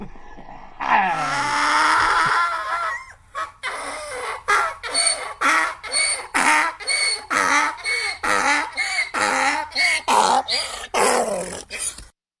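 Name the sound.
cough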